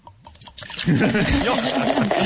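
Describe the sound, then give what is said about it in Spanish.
A few light taps, then a steady pour of liquid into a container, hissing and gurgling with a rising bubbly tone, like a carbonated drink being poured. “Sonó, pero esto suena, refresco, esto suena más a refresco. Te dan ganas de tomárselo, ¿no? No sé si es refresco o cerveza, algo con gas.”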